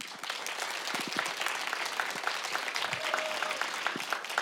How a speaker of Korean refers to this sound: 여러분 큰 박수로 다음 무대를 맞이해 주십시오.